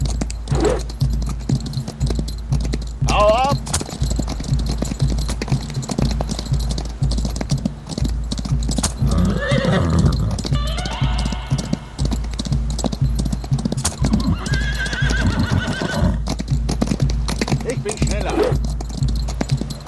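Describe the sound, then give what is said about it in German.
Horse hooves clip-clop in a steady, continuous, loud rhythm as a horse is urged to go faster, with a few brief whinnying calls partway through and faint voices in the background. “Los, schneller Pferdchen.”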